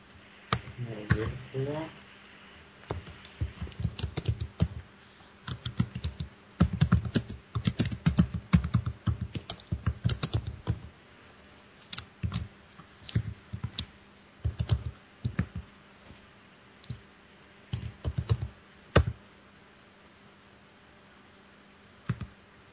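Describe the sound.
Rapid bursts of typing on a computer keyboard, fairly loud, as program code is typed: the number 1, a comma and a quoted string. Clusters of clacking keystrokes are separated by short pauses; a brief synthetic screen-reader voice is faintly heard near the start.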